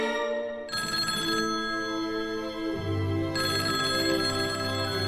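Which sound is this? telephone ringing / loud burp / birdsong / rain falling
telephone ringing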